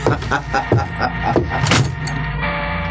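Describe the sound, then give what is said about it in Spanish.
A ship's cabin door swings shut with a solid thud and latch click as a sailor leaves the cabin, preceded by a few short clunks and shuffling over a low rumbling background, then a steady hum lingers. “El marino abandona el camarote cerrando la puerta atrás de sí.”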